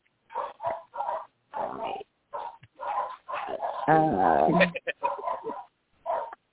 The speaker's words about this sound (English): somebody's dogs are barking. Those are my dogs. Yeah. My dogs are a pain in my back all the time, and I put myself on them as soon as I can.